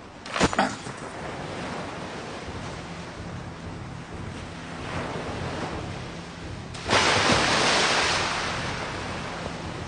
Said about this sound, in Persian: جمشید خود را به کام امواج خروشان دریا سپرد تا شاید زهر تلخ یأس را به شهد شیرین کامیابی بدل کند.